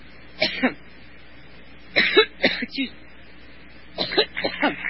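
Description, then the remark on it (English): Hillary Clinton coughs in a repeated fit while speaking: three clusters of harsh, raspy coughs spaced a couple of seconds apart, moderately loud, with quiet pauses between bursts. “Coughing.”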